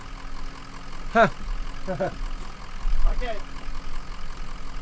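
A steady low engine rumble and idling drone, recorded aboard a bus with its engine running, while a few short, indistinct vocal bursts break in over it.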